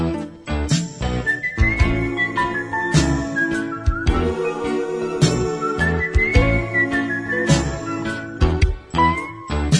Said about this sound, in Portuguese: interpretou com voz, violão e assobio essa preciosidade de sua autoria,